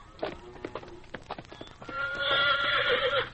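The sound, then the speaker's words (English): Hooves clip-clop in a quick, uneven series of sharp knocks, then a horse lets out a loud, shrill whinny that holds for over a second and wavers at the end. “You better get on your horse now and ride on out of here.”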